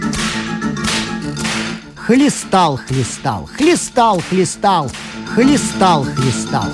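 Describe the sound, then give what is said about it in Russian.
A string of sharp whip lashes in quick, uneven succession as a king lashes a cooking pot with a whip, each crack loud, mixed with strained vocal grunts and exclamations between the strokes. “И принялся глупый король хлестать горшок кнутом.”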